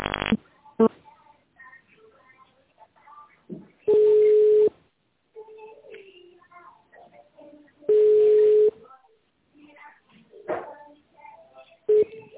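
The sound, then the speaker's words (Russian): Telephone keypad tones in the automated phone menu of the company Stroyyutregion: loud, steady electronic beeps at a mid pitch, about four bursts spaced roughly evenly apart, with quieter line noise and faint voice-like sounds between them. “Для работы с меню переведите телефон в тональный режим.”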